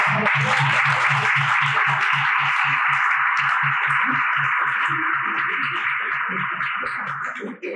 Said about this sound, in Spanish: Muchas gracias. Damos un aplauso al doctor